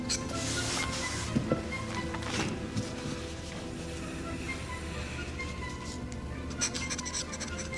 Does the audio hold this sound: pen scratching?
yes